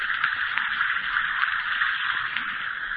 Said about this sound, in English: Just dissolve an Alka-Seltzer tablet or two in a glass of water like this. Listen to it fizz.